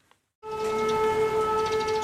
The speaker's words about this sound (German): Das ist der Ton, der in Kryvyi Rih derzeit das Leben bestimmt. Luftalarm. Anderswo in der Ukraine schwellen die Sirenen an und ab. Hier ist es ein gleichmäßiges Sirren. Es ertönt oft mehrmals am Tag.